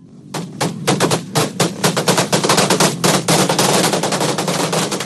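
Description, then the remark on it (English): Rapid bursts of gunfire crackle nonstop as thousands of demonstrators fill the streets of Caracas, Venezuela, amid tear gas and water cannons, over a loud, noisy outdoor backdrop, dozens of sharp reports overlapping into a dense, chaotic barrage with no speech. “Thousands of demonstrators took to the streets of the capital with gunfire and tear gas erupting and troops loyal to Maduro firing water cannons at protesters.”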